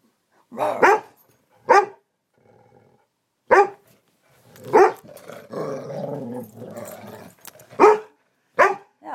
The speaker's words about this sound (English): Barking at me now. Well, be careful. Yeah. Dog, you got bad breath.